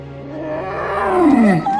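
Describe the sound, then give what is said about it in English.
A large snow cat lets out a long, rumbling roar-like yawn, its deep groaning tone sliding downward and swelling louder before trailing off, with no talk over it. “She looks up to see a large snow cat.”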